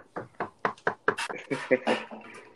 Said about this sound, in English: Hopefully, I just didn't jinx myself, but we shall see. Knock on some wood.